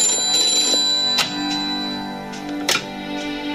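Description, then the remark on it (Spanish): An old-fashioned telephone rings with a bright, metallic bell, its tones sustained and shimmering between sharper strikes. The ringing is fairly loud, with no voices over it. “El señor Bond está al teléfono, señora primer ministro.”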